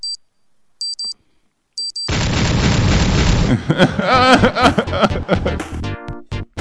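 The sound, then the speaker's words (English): An NBA trade alarm sound effect: three sharp, high electronic beeps spaced about a second apart, then a loud booming whoosh that runs into a busy, energetic musical sting with swooping tones. “Yeah, that's our NBA trade alarm”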